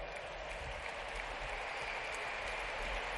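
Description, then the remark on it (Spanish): Sustained applause from a crowd after a challenge is put to Cholo, a dense, steady wash of many hands clapping at once with no pauses or individual claps standing out, fairly loud and without any talking. “Está aplausos, un reto al Cholo.”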